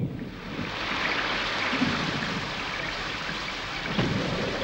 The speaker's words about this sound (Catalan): Ara pluja! Un banc de núvols negres tapa el cel.